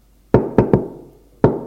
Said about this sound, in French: On frappe à la porte.